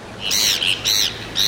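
Three loud, nasal Heermann's gull calls in quick succession, each a harsh, slightly rising squawk, with no one talking over them.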